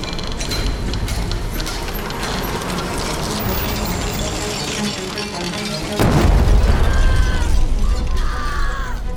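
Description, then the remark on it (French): A deep, heavy boom erupts partway through, following a steady clattering mechanical din: an explosion at the la Grappe coal mine in Frameries on 17 April 1879. Its rumble lingers loudly for several seconds with debris-like crackling. “Le 17 avril 1879, une explosion retentit au charbonnage de la Grappe à Frameries. La détonation résonne dans toute la région.”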